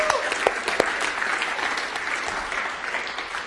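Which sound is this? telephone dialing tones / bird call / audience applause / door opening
audience applause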